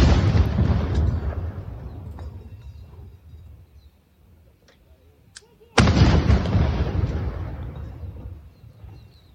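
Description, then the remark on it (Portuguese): Two heavy blasts of a 21-gun artillery salute fired at Praia Vermelha beach boom out several seconds apart, each a sudden loud crack followed by a long rolling rumble that slowly fades across open outdoor space. “Isso aí foi uma salva de 21 tiros dados na Praia Vermelha em comemoração, celebração à vitória do Exército Brasileiro contra a intentona comunista em 1935.”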